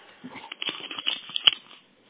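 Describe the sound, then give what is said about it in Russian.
Soft handling noises as someone picks up a pen to write something down: a quick burst of papery rustling mixed with small clicks and taps, lasting under two seconds with no voices. “Подождите, я сейчас запишу. Сейчас ручку возьму, подождите минуточку.”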